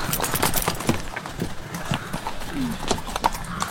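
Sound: horse hooves clip-clopping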